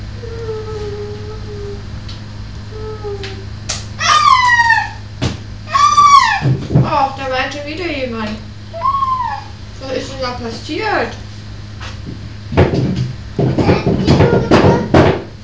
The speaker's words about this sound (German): Da weint jemand ganz doll.